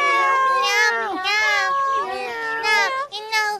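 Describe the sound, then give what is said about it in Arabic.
A run of high, drawn-out meows, several overlapping cries that rise and fall in pitch one after another, loud and continuous with short gaps, like small cats calling together. “مياو مياو، اسمعوا اسمعوا يا قطط الصغار، سوف أخرج وأعود بسرعة.”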